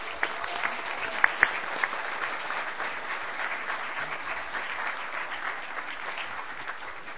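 A church audience applauds the children during a service, a steady wash of many hands clapping at even loudness for several seconds, with a few sharper individual claps standing out early on.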